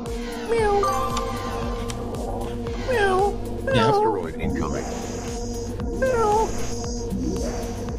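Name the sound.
cat meowing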